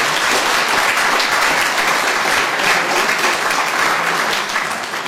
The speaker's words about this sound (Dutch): En uiteraard onder hartelijke dankzegging, en ik vind dat het ook gepaard moet gaan met een hartelijk applaus.